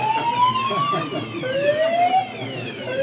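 A loud alarm siren, set off when someone lit a cigarette during talks with Hungary on gas cooperation, with no real danger, wails, its tone sweeping upward again and again in steady rising whoops, with a faint murmur of background noise underneath.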